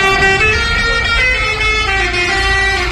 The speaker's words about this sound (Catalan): Els camioners són molt creatius amb aquest tema de fer cançons amb els clàxons. Mira, a veure si reconeixeu aquesta.